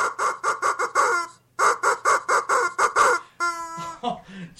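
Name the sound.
chickens clucking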